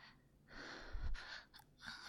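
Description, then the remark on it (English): Sharp, breathy intakes of breath, a quick gasp followed by a couple of shorter airy inhales, with no talking. “to get my breathing to go a little bit bendier.”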